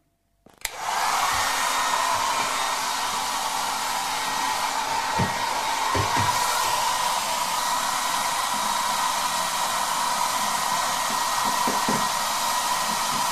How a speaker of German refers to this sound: Und deswegen greife ich jetzt zu meiner Geheimenteisungswaffe, meinem Föhn. So, auf geht's.